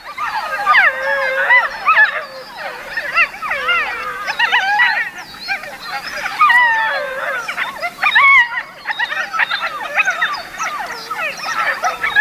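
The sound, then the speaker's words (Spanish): A chorus of wolf pups born that spring yips and howls together at night in the mountains, answering an adult's earlier howl; many high wavering voices overlap continuously, with no talking. “Los cachorros que han nacido esta primavera están reunidos y, respondiendo al adulto que aulló antes, mantienen estos parloteos.”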